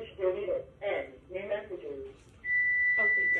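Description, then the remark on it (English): A phone answering machine gives a single sustained electronic beep, a steady high tone that follows a few bursts of talking and continues as a voice speaks over it. “It keeps beeping, beeping, beeping until you do it.”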